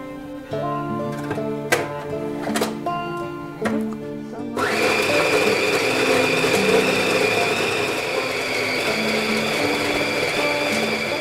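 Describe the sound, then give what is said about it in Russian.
A few sharp clicks over soft tonal music, then a blender whirs on abruptly and runs loud and steady to the end, grinding up pieces of five large lemons for a pie filling. “Сейчас мы закладываем наш лимон в блендер.”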